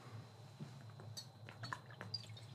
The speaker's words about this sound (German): Das ist so ein wichtiges Thema, da muss ich jetzt erstmal einen Schluck Wasser nehmen.